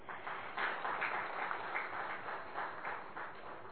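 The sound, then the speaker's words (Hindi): An audience applauds steadily to honour the dignitaries on stage, many hands clapping in a dense, continuous patter at an even, moderate loudness with no voices. “तो मंचस्थ महानुभाव इस जिम्मेवारी की श्रृंखला में बने हुए हैं, बंधे हुए हैं, उनको हम तालियों से अभिवादन कर ले।”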